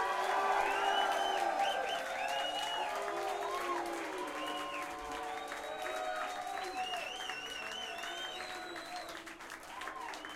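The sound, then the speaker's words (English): An audience claps steadily and loudly for about ten seconds in a round of applause for musician Mitch Stein during band introductions, while scattered voices whoop and cheer over the applause, which eases off slightly toward the end. “Before we break, please, a warm round of applause for Mitch Stein on the top.”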